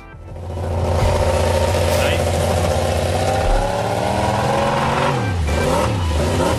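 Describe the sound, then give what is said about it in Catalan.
A high-pitched Moto3 racing motorcycle engine revs loudly and continuously with a buzzing, chainsaw-like whine, its pitch climbing, then dropping and rising again near the end as it passes by. “Això és de moto serra. De moto serra. Vale? O un tallagespa d'aquells dels jardins, també.”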